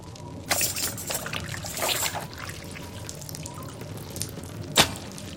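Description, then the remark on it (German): Water drips and splashes irregularly from a papermaking sieve onto a freshly made paper sheet, with a few louder spattering bursts early on and one sharp, distinct drop near the end, with no voices. “Es tropft vom Sieb auf den frischen Bogen.”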